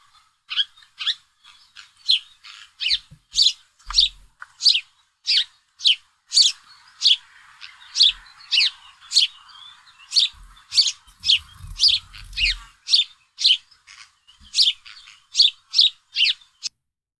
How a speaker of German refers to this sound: Das war ein Spatz. Das war ein Spatz, genau. Super. Gut. Genau, man sitzt so auf der Bank, irgendwo auf dem Kirchplatz oder so, hat irgendwas, was krümmelt und ruckzuck hat man 10 Spätzle, Spätzelchen um sich rum, die dann so zirpen.